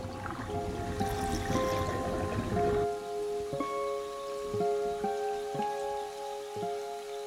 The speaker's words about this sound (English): At her apartment, Sarah watches as the water in the sink runs down the drain.